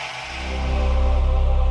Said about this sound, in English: That's HBO's Sonic ID.